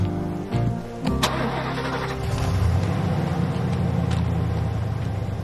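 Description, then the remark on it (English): A van engine cranks and catches with a brief sputter, then settles into a steady, low droning rumble as the van drives along somewhere in Idaho, with no voices. “Inside the van, Dusty drives.”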